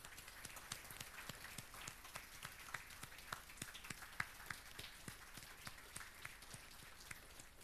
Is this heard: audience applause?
yes